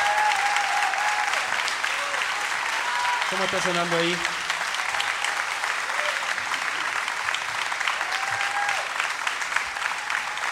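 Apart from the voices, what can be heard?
loud applause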